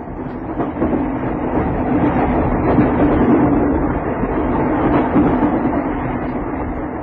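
A train rumbles steadily along the rails, a dense, continuous roar with faint rhythmic clatter from the wheels, fairly loud throughout, with no voices.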